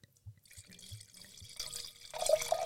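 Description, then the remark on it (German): Wine is poured into a glass: a few soft low glugs at first, then a steady splashing stream that grows louder and brighter as the glass fills, with no voices. “Jetzt mal einen halben Liter im Glas.”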